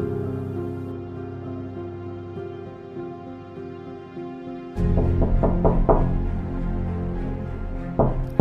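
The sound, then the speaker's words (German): A steady low hum gives way to a quick series of four or five firm knocks on an office door, followed by a brief pause and one more knock near the end. “die Tür ist offen.”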